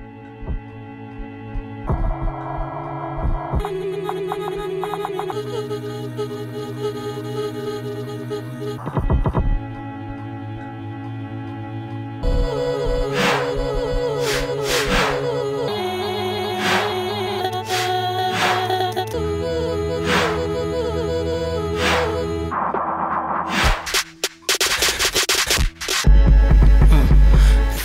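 An electronic music track plays on its own at steady volume, with sustained layered synth tones, recurring sharp percussive hits, and abrupt section changes that build toward a denser, louder ending.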